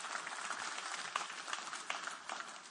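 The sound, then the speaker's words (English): A church audience claps steadily together as a clap offering, a dense, sustained patter of many hands with no break. “Give me one more good clap offering this morning, would you?”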